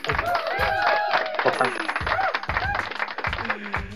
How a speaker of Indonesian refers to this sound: Eh, tepuk tangan dulu atuh.